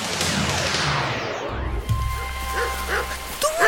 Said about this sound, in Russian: Дождь! Ветер! Холодно-то как!